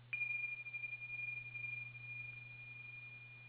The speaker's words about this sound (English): So I'm going to go ahead and open up the microphones, and I'm going to ring the chime now.